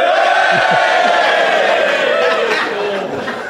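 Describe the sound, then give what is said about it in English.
A large comedy-show audience cheers to vote that the performer acted immorally, cheering and shouting loudly and steadily, a dense roar of many voices with whoops rising through it, fading slightly toward the end. “If you think I acted immorally, cheer now.”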